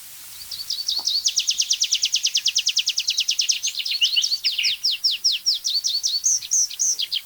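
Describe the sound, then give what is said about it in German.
A tree pipit sings a long, bright strophe: a rapid even trill of high notes that slows into drawn-out, ornate descending 'zia' calls at the end, loud and alone. “Und das war so eine schöne Abschlussstrophe. Sehr verschnörkelt, noch eins draufgesetzt am Ende.”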